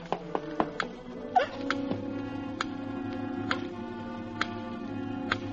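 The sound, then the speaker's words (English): A clock ticks with sharp, distinct clicks over a steady low hum. The ticks come quickly at first, then settle into a slower, regular beat. “The clock's ticking again.”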